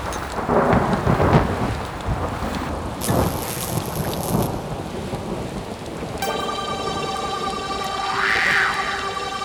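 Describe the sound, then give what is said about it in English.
Steady, heavy rain hisses while deep thunder rumbles and cracks. Partway through, eerie sustained tones rise over the downpour, which continues loudly until the end. “Pouring rain, thunder and lightning, clash of the titans”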